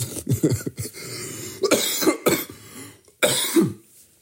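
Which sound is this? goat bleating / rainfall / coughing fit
coughing fit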